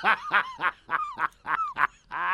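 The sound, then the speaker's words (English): A broken little red whistle blown in a quick string of about seven raspy, honking toots with wavering pitch, then one longer steady buzzing note. It sounds loud and alone, with no talking. “How can I get in the mode, in the mood, without my broken little red whistle?”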